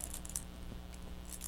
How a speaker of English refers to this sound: His keys again.